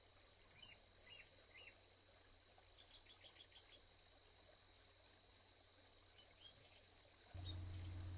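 A small bird chirps softly in the distance, a few short scattered calls over a steady background of insects trilling, with a low hum rising near the end.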